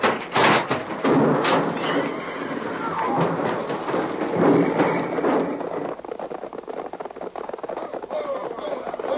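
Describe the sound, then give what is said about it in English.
A runaway stagecoach whose brake has failed crashes in a loud, continuous roar of rumbling and clattering, punctuated by sharp splintering bangs early on, then settling into a rough, rattling tumble that carries on to the end. “The brake. It don't work. We're going to crash.”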